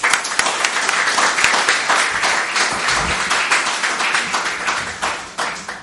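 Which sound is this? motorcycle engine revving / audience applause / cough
audience applause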